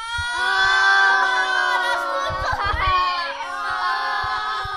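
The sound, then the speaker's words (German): A group of children cheers and shrieks together in a loud, high-pitched chorus of sustained voices that holds steady for about five seconds, with a brief swell of shouting midway. “Alle Kinder jubelten.”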